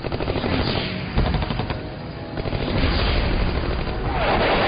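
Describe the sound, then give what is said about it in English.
Loud, sustained machine gun fire rattles in rapid bursts over a heavy low rumble, the crackling shots running almost continuously with only brief dips in intensity. “They shot my tires out.”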